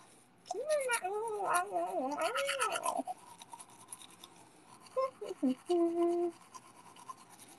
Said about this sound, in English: Hold on, I'm just taking my toothbrush over here to brush my teeth in front of my other phone so I can read the chat.